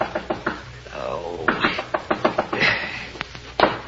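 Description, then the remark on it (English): Repeated sharp knocks on a hotel room door, room 500, a steady run of raps, with a brief muffled voice-like sound in between. “But just when you settle down to hibernate, the knocking starts.”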